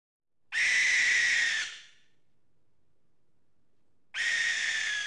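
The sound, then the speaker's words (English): A white bird, likely an owl, gives two loud, shrill screeching calls, each lasting about a second, separated by a quiet pause of a few seconds. No one speaks. “Oh, it's the white bird of death.”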